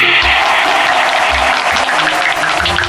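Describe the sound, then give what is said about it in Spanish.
Steady audience applause for a contestant father on a quiz show, a dense, continuous wash of many hands clapping at once, loud and sustained throughout with no voices breaking through. “Un aplauso para Ricardo.”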